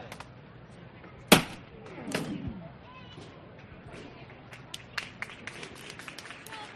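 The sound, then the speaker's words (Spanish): A single sharp crack rings out, then a street crowd on Calle El Puerto breaks into sustained applause as the float of the Cristo de la Pasión is lifted during a procession, a steady patter of clapping with scattered louder claps and a murmur of voices beneath. “Se levanta ante el aplauso de todo el público que hay en la calle El Puerto, que es espectacular, no cabe nadie, está la gente pisando ya el asfalto porque no caben las aceras, los balcones completamente llenos, todas las ventanas, todas las casas”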